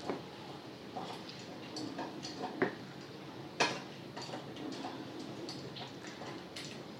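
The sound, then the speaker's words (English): A pet licks a dish clean, trying to get off dried food crumbs stuck to it, the dish rattling and scraping with irregular light clicks and clinks, fairly quiet, a couple of sharper knocks standing out, with no talking. “So he's having a good old go at that because it's got dried bits stuck to it.”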